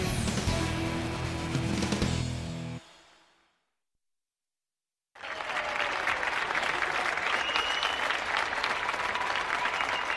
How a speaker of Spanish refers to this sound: Todos recordamos este sonido que era el de los aplausos de todos a las 8 de la tarde desde las ventanas y los balcones de todas las casas de toda España, pero también y sobre todo de Madrid.